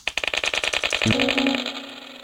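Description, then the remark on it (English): A rapid, steady run of about twenty crisp key clicks, fairly loud, as the backspace key on a computer keyboard is pressed repeatedly to sell mice in a game, followed by a sustained electronic beep that holds and slowly fades; no voices. “Press backspace to sell and press delete to kill.”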